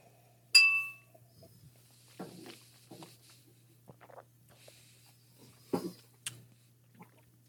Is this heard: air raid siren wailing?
no